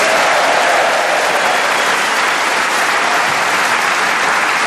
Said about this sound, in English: And warm applause, please, for our scorer, the lady who sits on my left hand.